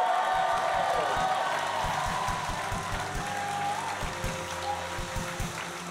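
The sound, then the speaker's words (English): An audience gives a clap offering, clapping steadily for several seconds, a dense, sustained wash of many hands with a few sharper individual claps standing out, loud throughout with no talking. “Oh, somebody give him a clap offering.”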